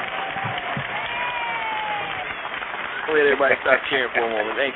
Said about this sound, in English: Everybody stop cheering for a moment. Thank you. That's our studio audience.